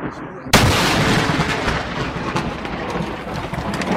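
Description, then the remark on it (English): A sudden, very loud crack of thunder from a lightning strike about 5 yards from a man in his yard bursts in after a brief quiet moment, then rolls on as a sustained, heavy rumble with rain-like hiss filling the rest. “The third one is about 5 yards from him, and you'll hear the loudness of it.”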